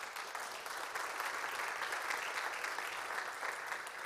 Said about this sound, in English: Give a hand clap for your church.